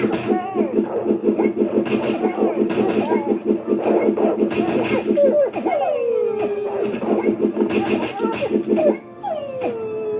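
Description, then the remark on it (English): A wolf enemy from World 3, the mountain world, of a video game yelps and whines in a dog-like way, with sliding whimpers and short howls over a steady low engine-like hum and rapid pulsing. “We have the wolf, although it sounds more like a dog.”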